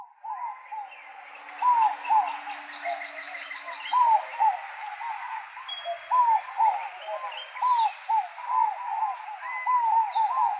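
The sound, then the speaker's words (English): White-winged doves coo in a steady run of short, hollow hoots, repeating over a dense chatter of other birds, with no voices present. “Yeah, what does a white winged dove even sound like? Yeah, they are very kind of cooey.”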